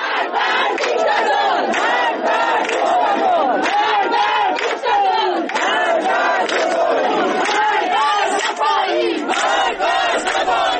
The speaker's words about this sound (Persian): جمعی از شهروندان ایزه هم روز جمعه بر مزار حامد سلحشور گرده هم اومدن و مراسم سوم اون رو همراه با سر دادن شعار علیه جمهوری اسلامی برگزار کردند. بخشی از این شعارها رو بشنویم.